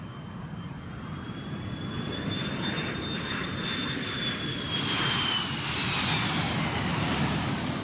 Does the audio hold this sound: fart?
no